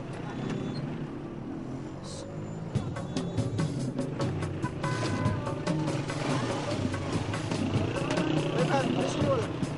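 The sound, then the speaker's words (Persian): A motorcycle engine idles and runs steadily, a continuous low rumble throughout with faint clicks and rattles, while indistinct voices murmur underneath. The motorcycle has a rear rack and seat, and a passenger is invited to hop on. “با موتور؟ بله من که نمیتونم موتورم اینجا ول کنم که، بعدش هم خیالتون راحت باشه این ترک بند داره، این صندلیش هم بهترین ماشینای دنیا راحت داره.”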